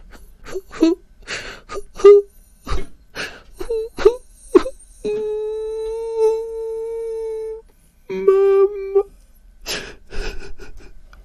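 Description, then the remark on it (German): A voice imitates a child's pitiful crying, sobbing and whimpering as once heard in a waiting room: a rapid run of short, gasping sobs and whimpers, then two long, steady wailing moans, ending with a few more sobbing breaths, fairly loud. “Es ist ja natürlich immer schwierig, wenn man selber nicht im Zustand ist, aber ein mitleiderregendes Weinen, Schluchzen, Jammern, so, ne?”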